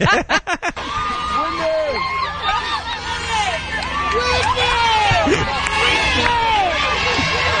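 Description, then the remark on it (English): A large crowd of a singer's fans screams nonstop, dozens of high, wavering voices overlapping into a loud, frenzied roar, opening with a few sharp clap-like bangs before the shrieking swells and holds. “But what's going on with screaming?”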